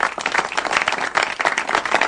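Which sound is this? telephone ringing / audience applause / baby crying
audience applause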